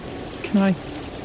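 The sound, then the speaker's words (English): A stream trickles steadily in the background, a soft continuous watery hiss, with a brief low humming tone rising briefly over it midway through. “He sighed and took another step closer, his feet splashing into the stream.”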